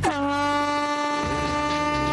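A single loud, sustained horn blast with a rich, brassy harmonic tone, holding steady for about two seconds as the starting signal for a team to pull on wellies, hop on a scooter and race at the Hill of Doom, with no talking over it.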